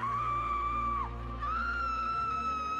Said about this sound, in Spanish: Pero de repente, un grito rompe la monotonía de esa casa.